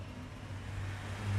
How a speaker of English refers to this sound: Another day, and traffic trundles along outside.